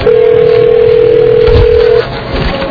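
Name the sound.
telephone dial tone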